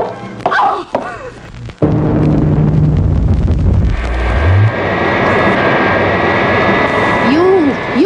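After a few brief muffled sounds, a loud airplane engine roar bursts in and holds steady to the end, dense, with a faint whining tone rising above it.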